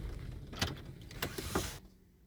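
A car's idling engine rumbles with a few mechanical clicks, then is switched off near the end, leaving near silence. Moderately quiet, with no voices.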